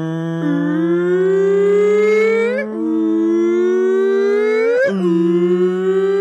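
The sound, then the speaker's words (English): A voice imitates a hurricane siren: a loud, sustained wail that slowly climbs in pitch, breaking off and restarting twice over about six seconds, with no other sounds. “A hurricane siren goes off.”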